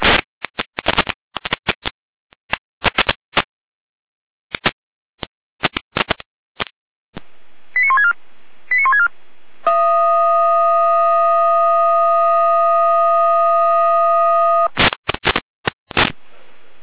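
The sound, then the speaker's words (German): Fire brigade dispatch alert tones for Feuerwehr Remsendorf, an assistance call (Hilfeleistung) toward Timmendorf: after a run of sharp radio clicks and bursts, a few short beeping tones lead into a loud, steady, buzzy tone lasting about five seconds, then more crackling bursts. “Leitstehen alarmieren.”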